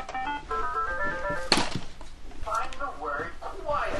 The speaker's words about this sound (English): For the record, that device you just heard asking about quiet, well, it's a talking laptop.